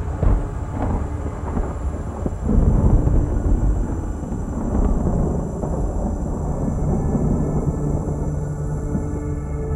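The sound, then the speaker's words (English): A deep, sustained rumble of thunder rolls through steady rainfall, swelling louder around the third second before settling into a continuous low growl beneath the hiss of the storm. “It's hard to hold it when it rains.”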